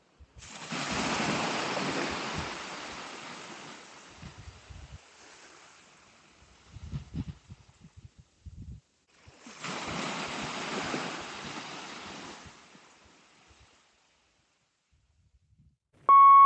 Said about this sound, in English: I'll let you listen to the sea for a while.